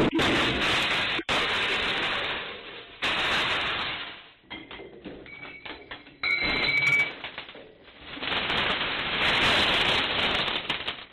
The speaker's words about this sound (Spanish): 2 ladrones, como se puede ver en el vídeo de las cámaras del local, destrozaron la puerta con una piedra de grandes dimensiones y se llevaron la caja registradora. Este es el sonido del momento del robo recogido por esas cámaras.